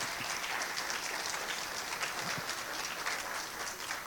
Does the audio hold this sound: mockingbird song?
no